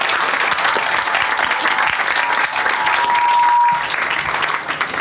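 Sustained audience applause fills the whole stretch, a dense, steady wash of many hands clapping at an even loudness, with no voices standing out above it.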